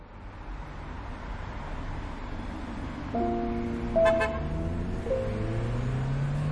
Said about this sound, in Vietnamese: Con đường cao tốc dài hun hút, dòng xe cộ tấp nập lướt qua như những cơn gió cuối hạ đầu thu.